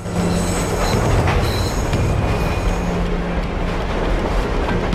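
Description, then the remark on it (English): A train pulls into a station platform with a loud, steady rumble, its wheels letting out thin metallic squeals as it slows. The heavy roar fills the whole stretch without pause. “A train pulls in.”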